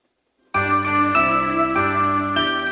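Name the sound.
bells ringing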